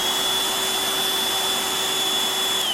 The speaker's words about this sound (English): Also, there's Robot here with his girlfriend, the vacuum cleaner.